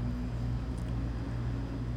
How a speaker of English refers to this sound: Man, the cars are loud today. I don't usually get that much traffic noise here. We don't live anywhere near a busy, like, it's not a highway or freeway or anything, but there's like a main road here that lately, I swear, has the loudest cars on it.